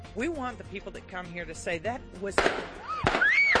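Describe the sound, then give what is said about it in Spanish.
During a live local television broadcast from a shopping centre, as a reporter interviews a guest, a person talks, then a man fires two loud, sharp gunshots that crack out about half a second apart, followed by a high-pitched scream. “La periodista y su cámara morían en el acto, mientras que la invitada resultaba herida por los disparos.”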